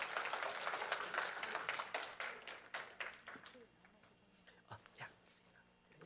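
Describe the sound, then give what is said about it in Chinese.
A crowd applauds with dense, steady clapping that thins out after a few seconds, leaving a few scattered claps and soft murmuring voices underneath, at a church service, welcoming the first of those to be baptized up to give testimony. “好，那我们就把时间交给他们，请热烈的掌声来欢迎第一位”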